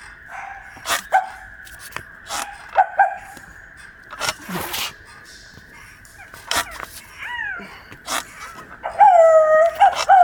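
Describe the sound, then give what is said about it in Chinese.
A person imitates a barking dog with a series of short, sharp barks and yips spaced irregularly, ending in louder whiny, yelping calls toward the close. “我操，太像了”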